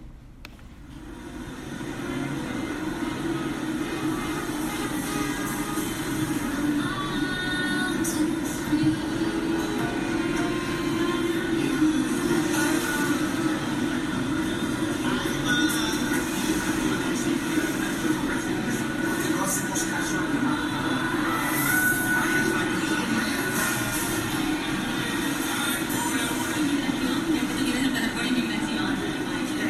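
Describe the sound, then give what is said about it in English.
Steady radio static from a radio art installation, reinstalled at the School of the Museum of Fine Arts in Boston, fills the whole recording, a dense, fuzzy white-noise hiss layered over a low, droning hum, holding an even, fairly loud level after a brief fade-in. “It's kind of a white noise, kind of enjoyable, low hum fuzz.”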